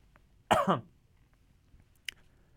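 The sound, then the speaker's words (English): A single sharp cough bursts out in a studio, then quiet, followed by a brief faint click or tap a moment later against low background noise. “It wasn't a foreboding cough either.”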